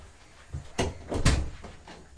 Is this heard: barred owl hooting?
no